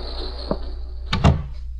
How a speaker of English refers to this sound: You want me, boss? Yeah. Close the door.